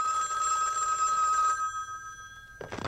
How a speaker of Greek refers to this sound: Α, πάλι τηλέφωνο.